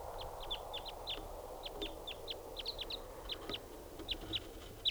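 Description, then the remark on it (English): A lone wild bird, recorded at 7:06 as it comes in and flies over, calls repeatedly in quick, high-pitched chips, a steady run of short sharp notes over a soft, broad background hiss, with no voices. “So recording at 7:06 now, and there's a wild lone bird coming in.”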